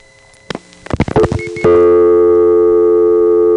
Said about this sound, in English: so that when the actual dial tone came on, we'd actually get to hear it as it is, which is this. Here's the way a dial tone usually sounds on this payphone.